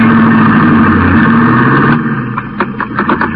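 A car engine hums loud and steady, then its tone shifts and thins as the vehicle pulls away, with a few sharp mechanical bursts near the end.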